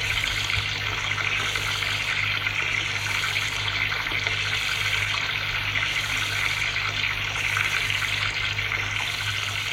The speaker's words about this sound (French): Des planches, un jet qui vient du haut. Un savon, un porte-savon, savon de Marseille. Surprise, elle se douche.